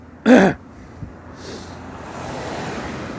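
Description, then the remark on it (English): A car with stuff sticking out of its trunk passes with a broad rushing swell that builds steadily and stays loud, after a brief sharp throat-clear or cough at the start. “You got stuff sticking out your trunk, and you're loud.”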